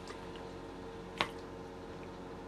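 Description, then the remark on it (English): A single quick, wet sip or gulp of water stands out briefly against a steady low background hum, with no talking. “Got to take a drink of water.”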